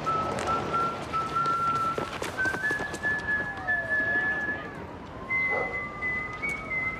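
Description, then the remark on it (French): A man whistles a slow, drawn-out tune in long steady notes, clear, over a constant hiss of outdoor background noise with occasional faint knocks; it is the signature whistle of the gangster character Omar Little. “Un sifflement et c'est tout le quartier qui s'enferme à double tour.”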